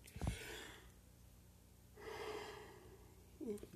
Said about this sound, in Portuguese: Perdão, amados, pelo bocejo.